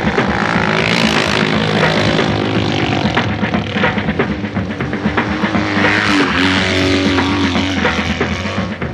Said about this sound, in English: The motorcycle has two wheels and handlebars to steer it. It's fun to drive, and when you drive, everyone can hear it.